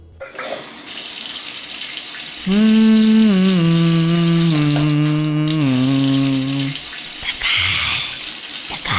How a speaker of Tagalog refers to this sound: Bawat minuto sa shower, 10 litro ang nagagamit. Bilisan mo ng maligo.